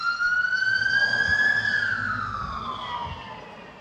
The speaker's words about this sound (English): Sorry, I'm gonna have a siren for a second. My apologies, hold on.